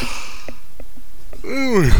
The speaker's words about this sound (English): I'm sorry. I got the yawns this morning.